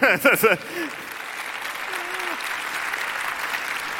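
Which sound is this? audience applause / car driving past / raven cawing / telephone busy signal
audience applause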